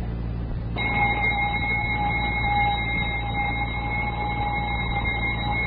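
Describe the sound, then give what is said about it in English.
A voice, a Navy lieutenant performing in a talent contest, imitates a radio alarm clock starting up in the morning: a short burst of static-like hiss gives way to a steady, high, buzzing electronic tone that holds unbroken for several seconds. “in an imitation of a radio alarm clock starting up in the morning.”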